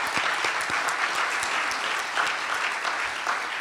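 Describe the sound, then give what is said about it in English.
An audience at a Good Friday afternoon worship service applauds steadily, many hands clapping in a dense, even wash of sound that holds at a constant loudness throughout, with no voices standing out. “Yeah, we can clap.”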